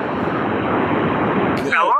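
A steady, loud rush of running shower water hisses without a break as a man calls in to a radio show from his shower, and a voice briefly starts speaking over the spray just before the end.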